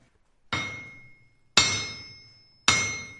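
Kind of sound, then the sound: tool, hammer striking metal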